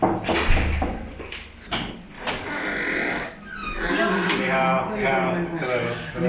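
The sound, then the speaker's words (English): An unmarked apartment door on the sixth floor of a Beijing apartment building opens, with a drawn-out creaking, grinding sound and a few knocks and rattles of the latch and frame. “On the sixth floor of a Beijing apartment building, an unmarked door.”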